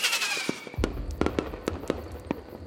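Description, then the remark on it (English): Fireworks set off above a lake at the close of the Bohemian Club's midsummer ceremony burst in a rapid, irregular series of sharp cracks and pops over a low rumbling background, with a hissing launch at the start; moderately loud, no voices. “Finally, fireworks are set off above the lake.”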